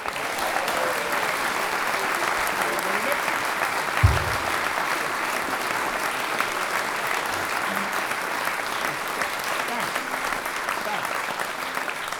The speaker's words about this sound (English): can I ask you please to give one big round of applause to your compere for this evening,